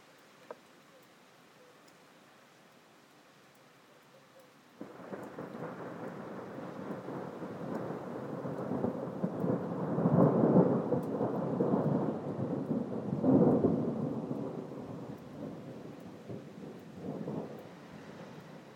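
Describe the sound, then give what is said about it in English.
Rolling thunder rumbles in after a few quiet seconds, swelling twice into deeper, louder peaks over a steady wash of rain before slowly settling back down. “Come on, Thunder.”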